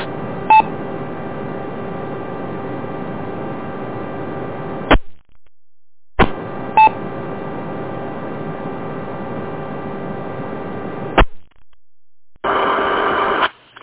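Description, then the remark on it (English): Short DTMF touch-tone beeps from a tapped key ride on a hissy, band-limited amateur radio repeater signal over EchoLink, running in two long stretches separated by a gap, ending with a clipped sharp cutoff and a final brief burst. “We just tapped a key down here to make it.”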